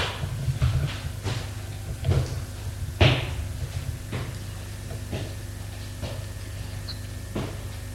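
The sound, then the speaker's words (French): Sharp wooden knocks on the concierge's door of a dilapidated apartment building, about nine of them at uneven intervals, with one louder rap partway through, all over a low steady hum and no voices. “Frappe à la porte de la concierge.”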